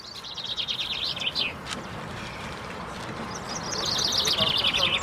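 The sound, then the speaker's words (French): A chaffinch sings two bright, rattling song phrases, each a rapid descending trill ending in a flourish, clear over a steady outdoor background hiss. “Bon, ça c'est un pinson.”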